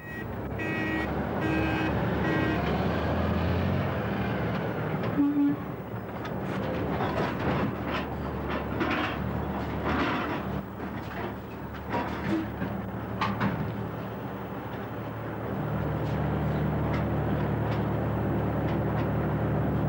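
Heavy machinery rumbles steadily while loading slate onto rail trucks, with repeated clanks and scraping knocks of material landing, a few beeping tones early on, and no voices.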